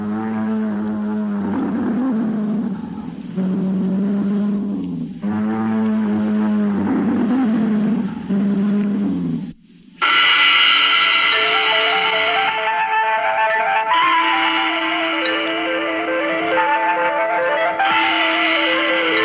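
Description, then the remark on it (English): A Tyrannosaurus rex roar coming out of the mist about 100 yards away: three long, loud, deep bellowing bursts, then a sustained, higher, shrieking roar with a rich, layered tone. No one speaks. “And then, from out of the mist, 100 yards away, came Tyrannosaurus Rex and a sound of thunder.”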